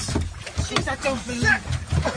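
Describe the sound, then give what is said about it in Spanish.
A few hollow thumps and splashy knocks as a seal jumps onto a small motorboat, with water sloshing around the hull and indistinct voices talking over wind. “Eso es la foca saltando.”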